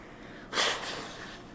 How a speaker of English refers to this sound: When I gurgle, when I breathe in, I know I need to cough. No, the cough drop won't help because it's loose and I got to get rid of it.